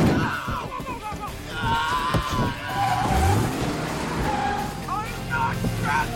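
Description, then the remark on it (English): Cars roar and rush past a man standing in traffic, with engine whine and squealing tires sustaining a loud, busy traffic din throughout, and indistinct voices mixed into the commotion. “Doug tumbles out. Oh, he stands as cars zip around him.”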